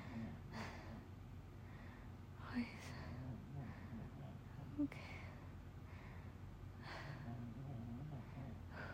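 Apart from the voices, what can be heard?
dog snoring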